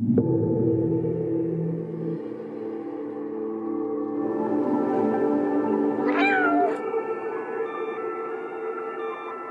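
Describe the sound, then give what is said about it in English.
A cat meows in a video game teaser trailer, a long, drawn-out wail over a low, droning musical backdrop, clear, with a second rising cry around the middle before the music carries on alone. “That meow sold me. It's so realistic, right?”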